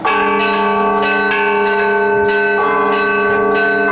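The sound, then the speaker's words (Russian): Church bells ring out in a festive peal, started remotely by dialing a tone code on a phone, several bells struck in a quick, lively rhythm with long, overlapping resonance. The ringing is loud, with no voices. “Допустим, можем включить праздничный звон сейчас.”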